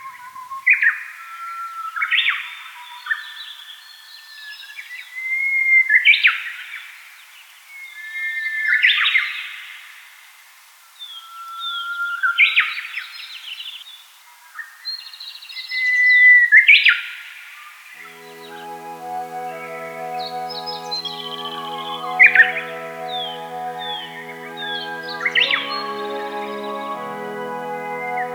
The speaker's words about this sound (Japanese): 朝の小鳥、今朝は万葉集からウグイスをお送りしました。